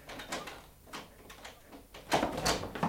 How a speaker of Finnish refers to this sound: Avatkaa ovi.